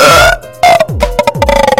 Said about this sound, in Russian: Я рыгаю в микрофон.